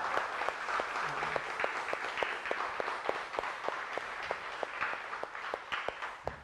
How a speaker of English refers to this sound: I would ask you just to help me say that we are proud of them. If you would help give them a giant round of applause, because it is such a cool moment.